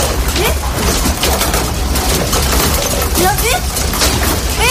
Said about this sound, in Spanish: Era el sonido del movimiento de mesas, sillas y camas en un edificio ubicado en la zona.